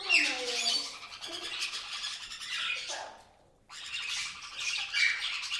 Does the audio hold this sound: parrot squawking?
yes